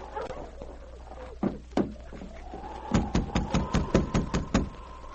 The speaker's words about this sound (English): Sergeant Preston waited a moment, and then, getting no response to his knock, he tried again a little harder.